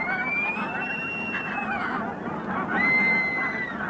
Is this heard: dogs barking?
no